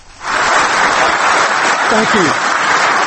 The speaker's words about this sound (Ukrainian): Бурхливими оплесками, які ви чуєте у жовтні в Дубліні на економічному конгресі ірландської діаспори, вітали одного з найвідоміших в Ірландії діаспорян Біла Клінтона, колишнього американського президента.